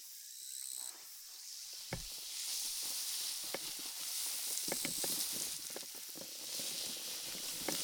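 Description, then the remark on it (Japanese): Carbonated liquid fizzes as it's poured onto hair during a rinse and massage, a steady bright hiss peppered with tiny crackling pops that keeps going for several seconds with no voices. “シュワシュワですか。”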